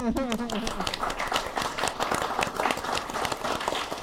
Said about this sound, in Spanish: Y pues eso, muchas gracias por estar aquí. Aplauso a ustedes.